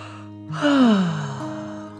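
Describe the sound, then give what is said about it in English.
A single drawn-out yawn after dinner: a breathy intake swelling into a voiced tone that slides downward, then trails off into a soft exhale. Clear, with no talking. “After dinner, Billy and Emily yawned.”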